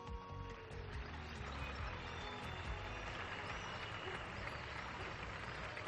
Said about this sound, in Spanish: No cesan los aplausos en la ciudad de la Alhambra. Este es el sonido.